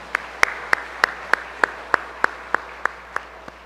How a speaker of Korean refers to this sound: 예, 주님께 영광의 박수를 올려드리겠습니다.